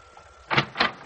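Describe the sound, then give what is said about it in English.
A door opens with two quick bursts of noise, like a latch clicking and the door swinging, with no one speaking. “Well, who opens the door for me but the most beautiful girl in the world?”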